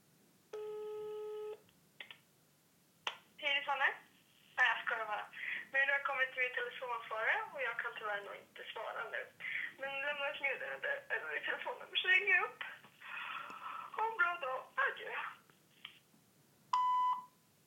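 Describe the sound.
A phone ringback tone sounds once near the start of a call placed at 12:15 at night, followed by a stretch of a recorded voice speaking, then a short electronic beep at the end.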